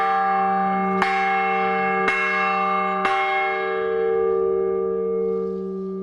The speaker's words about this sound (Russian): После освящения Его Высокопреосвященство поздравил всех собравшихся с этим радостным событием и, позвонив в благовест, пригласил к этому всех желающих.